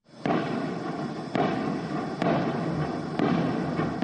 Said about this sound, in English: An arms cache ignited during that battle, setting off a series of explosions that rocked the area for over 2 hours.